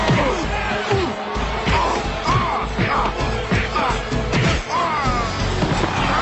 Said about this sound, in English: Macho and Flair punch each other with comedy sound effects. Oh, I love the sound effects.